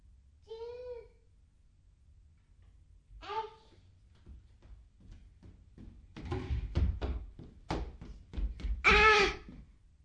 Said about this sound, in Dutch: Klap, zegt de deur.